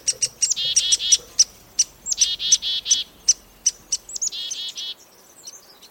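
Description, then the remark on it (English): Busy chickadee and woodpecker calls from a mixed flock foraging together: quick, sharp high notes and buzzy chattering bursts in an uneven rapid series, clear, tapering off into quiet near the end. “The watchdog chickadees alert the close-focused woodpecker when there's danger.”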